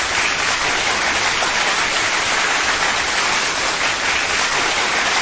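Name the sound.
round of applause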